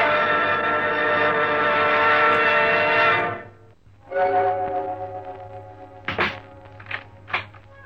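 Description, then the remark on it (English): A door groans with a long, drawn-out creak as it swings, pauses, creaks again, then shuts with a few solid thuds. No voices are heard. “Closing door finishes a story.”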